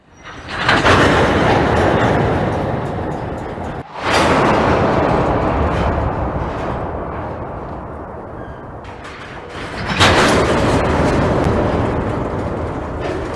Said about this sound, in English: Draft gears allow weight to be added gradually by letting the coupler slowly move in and out of a big sleeve. You can even hear draft gears in action when trains are accelerating and decelerating.